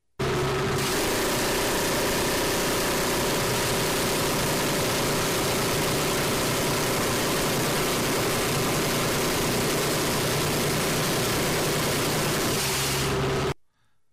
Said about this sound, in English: So the Gau 22, and this is from outside of an AC-130, so it's got the airplane noise in the background, but this is it's a Gatling gun. It's a 5-barrel Gatling gun.